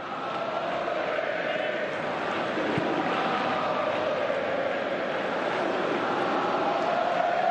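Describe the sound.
Part of FC Barcelona's supporters in the stands at a match against Leganés chant together, shouting "a Segunda", a dense, steady roar of many voices rising and falling in unison, loud and unbroken for the whole stretch.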